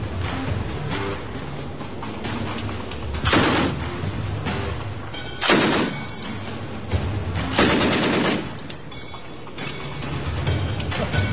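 Bursts of heavy automatic rifle fire from Clyde's Browning automatic rifle shooting at a door with ballistic gel placed behind it to represent a human body: several rapid volleys of loud sharp shots separated by brief pauses, with a dense continuous rumble underneath; no one speaks.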